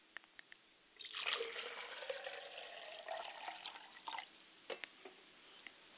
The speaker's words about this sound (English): I like to pour libation to my Father Spirit and Isaiah Ashe